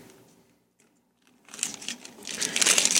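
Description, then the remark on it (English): After a quiet second or so, crinkly paper rustling starts up and grows louder and busier, a continuous crackling rustle with no voices. “Insert paper rustling here.”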